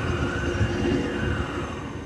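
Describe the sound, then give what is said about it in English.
Water flowing through a gas well separator, a jumble of pipes, valves and tanks about the size of a UPS truck that separates gas from water and solids, makes a steady, unbroken rushing rumble, heavy and low, with a faint thin hum riding on top for about two seconds. No one speaks. “So what you're hearing there, that's the water.”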